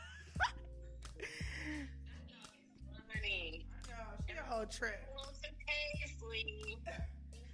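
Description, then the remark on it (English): A small Morkie dog, a Maltese and Yorkie mix, whimpers in a run of high, wavering whines and short yips, fairly loud, over a low steady background hum. “For my listeners, my best friend has a dog. She is, the fuck is she? She's like a Yorkie something mix.”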